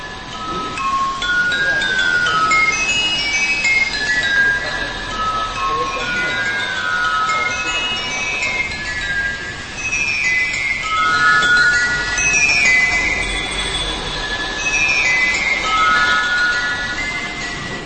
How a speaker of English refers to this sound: but the idea behind this is that there's an RC car with a tiny little mallet, and each bottle that this thing is hitting as it drives in a perfectly straight line down a parking garage